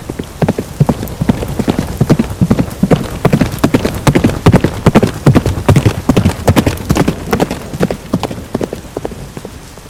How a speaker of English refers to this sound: then mounted his dark horse and rode off at full pelt towards the hall at Gray's Inn.